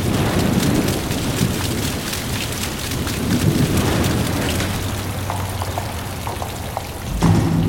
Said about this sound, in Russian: Как-то не вовремя дождь пошел.